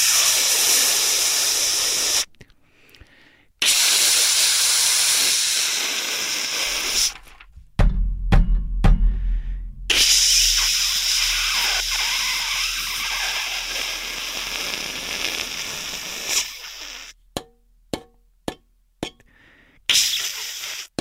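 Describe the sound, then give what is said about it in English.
A radiator in New York City hisses steam in loud, broad bursts that cut out abruptly, with a few short clanks and knocks between the blasts and several quick sputtering pulses near the end. “That's my fucking radiator in New York City.”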